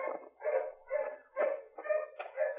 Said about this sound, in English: The dogs are getting closer, Rocky.